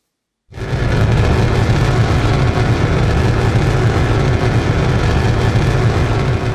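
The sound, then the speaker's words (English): A loud, steady roar of a jet engine begins abruptly after half a second, laced with rapid, irregular crackling pops like loudspeaker static or a crumpling plastic water bottle, caused by dozens of shock waves per second from intense jet noise radiation, sustained without pause. “The intense jet noise radiation results in dozens of shock waves per second, shown by these gray arrows, and a popping sound that has been described as similar to loudspeaker static or the crumpling of a plastic water bottle.”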